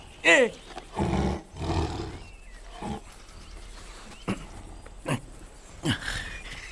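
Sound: tiger roaring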